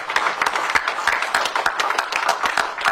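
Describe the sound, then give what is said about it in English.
A round of applause from a crowd as Vice President Harris and two Tennessee state lawmakers, members of the Tennessee Black Caucus, come out of their meeting arm in arm: many hands clapping in a dense, steady patter of sharp, bright claps that keeps up without a break for the whole stretch. “Coming out of their meeting, arm in arm to a round of applause.”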